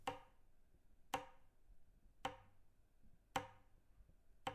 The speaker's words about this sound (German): Wenn man hineinging, konnte man feststellen, dass es ganz still im Haus war. Ah, doch. Ein leichtes Ticken hallte durch das Treppenhaus.